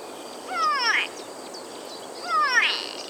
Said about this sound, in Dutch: In het Engels heten vale toerako's namelijk go-away birds, oftewel ga-wegvogels. En waarom? Luister maar.